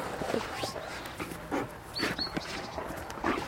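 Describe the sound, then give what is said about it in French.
A dog, the speaker's work partner, whimpers softly in short, high-pitched bursts, with brief whines rising and falling while a person talks over it. “Donc si je le laisse en chenil, je le récupère, il a déjà perdu quelques kilos, il est très stressé, donc voilà, c'est mon binôme, hein. C'est mon binôme de travail. Hein, grosse patate. Oh, oui.”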